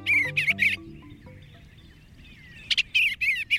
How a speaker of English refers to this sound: It's a wistful moment when your backyard swallows or bluebirds depart each fall, like the tree swallows we're hearing now.